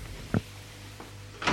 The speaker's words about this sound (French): On a frappé à la porte.